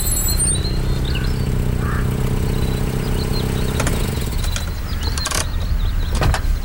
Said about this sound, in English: as she pulls up the drive and into the parking lot.